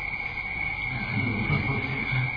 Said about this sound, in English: What is that? Frogs and crickets? How many? Is that one? Huh? More than one.